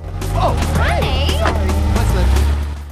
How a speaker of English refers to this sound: They take the car for a spin, leaving a space in the row of cars.